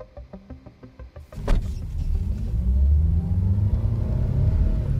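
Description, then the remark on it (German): A few short tonal pulses, then a sharp thump as a car engine starts and settles into a steady, low rumble that swells as the car pulls away and drives off at night. “Und dann war so mein erster Gedanke, als ich mich dann ins Auto gesetzt habe und losgefahren bin, ist vielleicht ein bisschen übertrieben jetzt, nachts loszufahren wegen einer Cyberattacke.”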